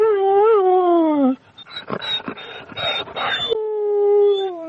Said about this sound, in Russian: Вокруг собачка ее мальчик бегает, скулит.